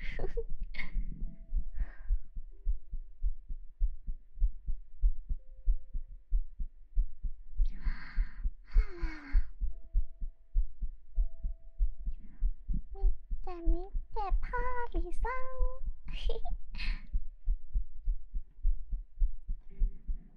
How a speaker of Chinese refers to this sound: 你的心跳变快是什么东西啊？